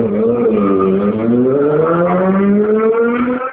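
A motorcycle engine roars past outside, its droning pitch climbing steadily as it accelerates, fairly loud and continuous throughout, with no one talking over it.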